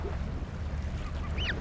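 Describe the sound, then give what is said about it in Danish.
Waterbirds call briefly by the sea at the Øresund strait, a couple of short honking cries rising over a steady low rumble of wind and waves, moderately quiet. “og lyt til lydene omkring dig. Vinden, fuglene, måske lyden af dine egne skridt.”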